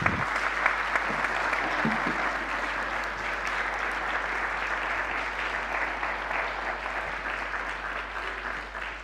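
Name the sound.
audience applause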